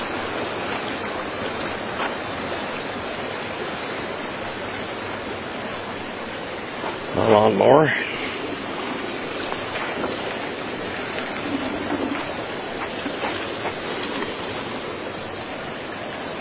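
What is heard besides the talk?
rushing flooded river water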